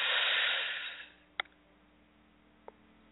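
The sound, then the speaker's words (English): A long, deep breath drawn in through the nose during a guided breathing exercise, a loud airy rush lasting about a second that fades away, followed by a couple of faint clicks in the quiet. “Let's do that again. Inhale.”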